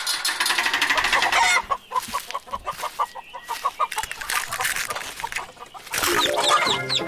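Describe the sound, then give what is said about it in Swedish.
A flock of chickens in a henhouse clucks and squawks, a busy overlapping chorus of short repeated calls with occasional louder cackles, filling the space with steady barnyard chatter. “och vi har precis varit inne i hönsgården. Vi kan väl lyssna igen på hur det låter då.”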